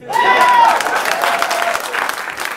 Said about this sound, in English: I'm done. Clap.